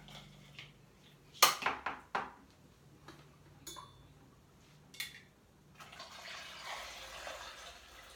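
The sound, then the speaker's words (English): A few sharp clinks and clatters of kitchenware, then a steady stream of already-strained coffee being poured into a bag with a closed clamp, running continuously with no talking. “So now my coffee has already been strained, and I just pour into here.”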